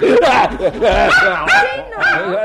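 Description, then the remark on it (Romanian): A dog in a children's nursery barks loudly in a rapid run of high, yappy barks and yelps, about five bursts in quick succession, with voices mixed in. “Refuz să permit acestui câine să se facă stăpân în odaia copiilor mei.”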